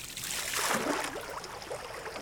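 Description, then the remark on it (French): A kayak paddle slices into the water with a soft swish, followed by light trickling and lapping as the stroke glides through, with no voices. “Plus à chaque coup de pagaie qui rentre, mais sans trop faire de bruit”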